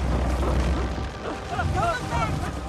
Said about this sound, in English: The animals leap off the ship as a cannonball strikes it. Oh, not good. More cannonballs obliterate the vessel as the animals swim away.